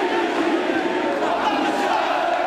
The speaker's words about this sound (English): They waved flags and shouted bread, freedom, and social justice. They oppose a government plan to raise taxes and cut bread subsidies, part of a debt reduction plan demanded by the International Monetary Fund.